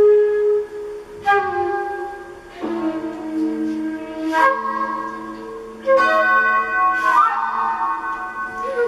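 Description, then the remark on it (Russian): A bell tolls in slow, uneven strokes, each strike ringing out with a bright metallic clang and long, overlapping overtones that hang and hum between hits. No voices are heard. “Скрипучий колокол заброшенного городка с больным сердцем умеет предвещать нехорошее и растягивать время на долгое и черное.”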